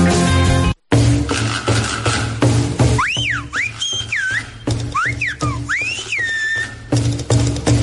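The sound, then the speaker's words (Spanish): Silbo Gomero whistled language: a series of loud, sliding human whistles rising and falling in pitch, coming in quick phrases over a steady bed of background music. “Este martes 1 de octubre celebramos el 10º aniversario de la declaración del Silbo Gomero como Patrimonio Inmaterial de la Humanidad.”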